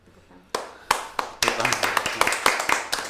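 Audience clapping starts with a couple of separate, sharp claps, then swells into a dense, steady round of applause from many hands that continues loudly to the end.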